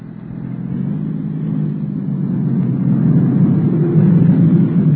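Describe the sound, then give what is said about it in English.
A black sedan's engine revs and grows steadily louder as it approaches, a low throaty roar building over several seconds with no voices. “And there comes another car. A black sedan.”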